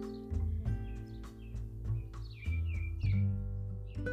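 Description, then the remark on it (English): Several short, quick bird chirps in a garden on Good Friday, clustered near the end, as a bird dive-bombs the gardener, sitting over a steady low humming background. No one speaks. “You heard that, but I just got dive bombed by a bird.”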